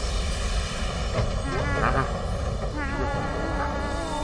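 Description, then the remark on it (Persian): A steady, dense engine-like roar hums throughout, with faint warbling tones rising and falling over it, as a spaceship's engines are switched on in a simulated flight to the Moon, powering up and holding at a constant rumble. “خیلی خوب تیم، موتورا رو روشن کنیم.”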